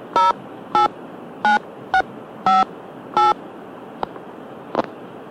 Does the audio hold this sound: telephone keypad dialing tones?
yes